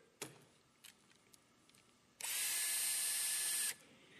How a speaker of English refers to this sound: Got a couple tools in here that I would like to share with you. The first one is a drill.